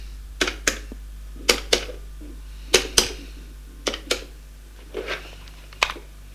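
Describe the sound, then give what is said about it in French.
A man picks up his telephone and dials a number: about a dozen crisp, sharp clicks, often in quick pairs, at an uneven pace over a steady low hum, with no voices. “Il prend son téléphone et fait un numéro.”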